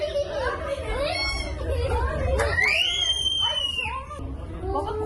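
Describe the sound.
Passengers on a car ferry from Yalova to Istanbul's Yenikapı, caught in a storm in the Marmara region with huge waves, shout and scream over a loud, steady rumbling roar, with high wavering cries rising and falling throughout the five seconds.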